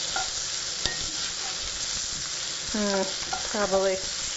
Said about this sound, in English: Ooh, you can hear the onions are sizzling quite a bit. I guess I'm finally going to have to break down and turn down the heat.